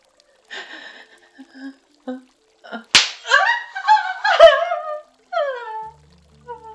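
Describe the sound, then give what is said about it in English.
A sharp whip lash snaps against skin, followed by a second quicker strike, with breathy gasps and rising vocal cries between and after the hits. “My soaked, swollen folds are naked and hot and available to each kiss of your whip.”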